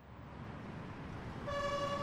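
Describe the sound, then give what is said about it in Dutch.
A steady rumble of road traffic, then an ambulance siren bursts in near the end, a loud, bright tone over the engine noise, the ambulance driving fast. “Juist op datzelfde moment vloog de mus Toep zo hard als hij kon achter de ambulancewagen waarin Tos lag vastgebonden.”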